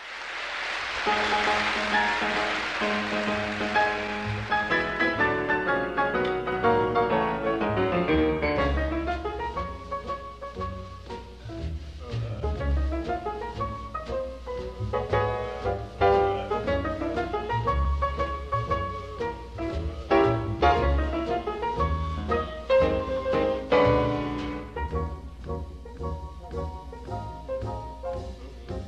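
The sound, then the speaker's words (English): A jazz piano piece plays steadily for about half a minute, with rolling chords and runs over a bass line, slightly hissy like an older live recording. “Let's listen to an excerpt from maybe the most famous composition by …, the …”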